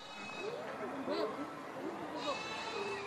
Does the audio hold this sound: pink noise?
no